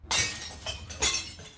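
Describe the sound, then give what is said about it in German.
Glass jars of 1970s home preserves (cherries, strawberries, red cabbage) from a cellar cupboard smash into a container outside the door in a loud burst of shattering, followed by two more crashes and a bright, tinkling scatter of shards. No voices. “Jetzt landet alles auf dem Container vor der Tür.”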